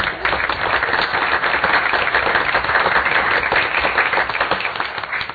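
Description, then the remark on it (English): A room full of people applauds steadily at a City and Borough of Juneau assembly meeting, clapping for mentors who stand up, a dense wash of many hands clapping at once that holds at an even, fairly loud level for several seconds. “We could applaud all of you if you just stand up and say, I'm going to.”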